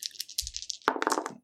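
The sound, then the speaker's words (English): A handful of dice being re-rolled rattles and clatters across a hard tabletop, a quick burst of sharp clicks tumbling over about a second before settling into silence. “And then I re-roll these ones because they sucked.”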